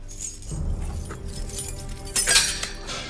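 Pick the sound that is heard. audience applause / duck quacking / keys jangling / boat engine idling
keys jangling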